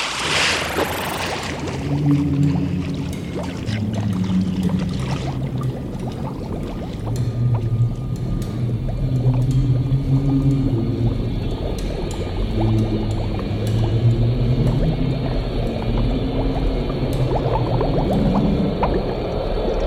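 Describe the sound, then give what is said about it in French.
A giant whirlpool with a very strong current churning in a lake, made by the Biplus, roars steadily for the whole stretch, a dense rushing hiss with low droning tones moving beneath it and no voices. “Ils sont en train de faire un courant très fort. Un tourbillon géant.”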